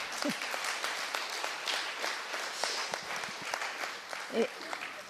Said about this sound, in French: Donc, c'est approuvé à l'unanimité, et là, vous applaudissez.